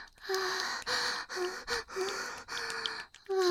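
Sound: heavy breathing and gasping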